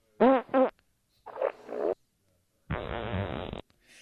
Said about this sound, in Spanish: Esto viene a ser el lago de los cisnes a pedos. Uy, suena bien. Está muy bien, ¿verdad? Pa-pa-ra-pa-pa. Pa-pa-ra-pa-pa.